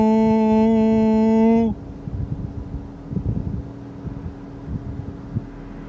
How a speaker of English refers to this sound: Yeah, that voo sound, that's the engine fan coming on. And that engine fan comes on when the engine is running hot. Obviously, I just started the car, so the engine should not be hot at all.